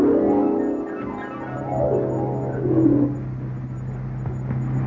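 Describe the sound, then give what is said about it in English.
A police squad car engine runs steadily and revs up and down in repeated sweeping surges as the car drives along a road, loud, with no voices over it. “Slow down at this corner, Blue Bottle.”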